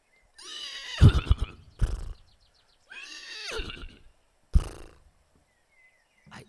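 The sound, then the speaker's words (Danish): A horse neighs loudly twice, each whinny a long, shaky, descending call, with a few snorts and breathy huffs in between, with no talking. “Det er rigtigt. Godt gættet. Det er en hest.”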